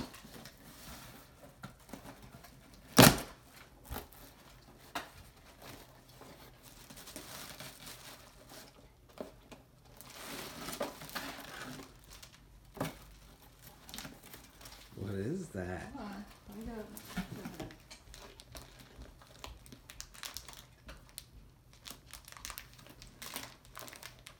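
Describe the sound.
Wrapping paper crinkles and rustles as a package is unwrapped, with a sharp tearing snap early on and irregular crumpling bursts throughout, while voices murmur briefly underneath.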